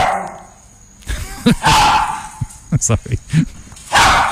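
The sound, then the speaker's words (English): A small chihuahua barks in a quick, uneven flurry of short, high yips, fairly loud, with a few scuffling thumps and some background noise around them. “That sounds like a frightened chihuahua, doesn't it?”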